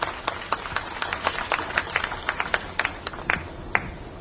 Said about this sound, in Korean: 여러분 큰 박수로 맞아주시길 바랍니다.